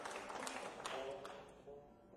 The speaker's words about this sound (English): It's not often you get applause for saying the word Spanish. We must be in a healthy state.